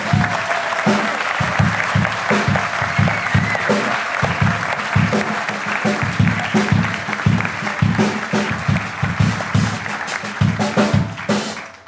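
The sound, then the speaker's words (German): Sustained audience applause for the story 'Shoppi' at a reading event, a dense, steady patter of many hands clapping at an even loudness, with a few faint voices mixed underneath. “Applaus nun für Shoppi.”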